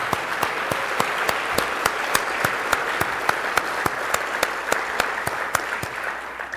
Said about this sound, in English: Just a round of applause for the Durker chapter.